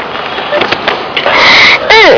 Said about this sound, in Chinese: 这是刚刚波波跑到林老师的班上，一些小朋友正热心地为花儿预备个舒服的家，波波也跟着一起捡石头，咚咚放进林老师的大桶子里。